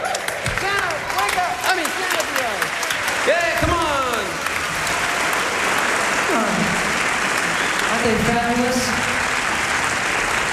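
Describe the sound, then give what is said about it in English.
An audience applauds an orchestra from Britain loudly and steadily for about ten seconds, a dense wash of clapping with scattered cheers, whoops and shouted voices rising above it. “I think I'd like to have you give a big round of applause to our orchestra from Britain.”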